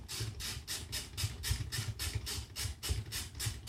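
Water boiling in a tea maker with clocks and an alarm, set off by twisting the clocks: steady, rhythmic surges of bubbling hiss, about three per second, over a low churning rumble, with no one speaking.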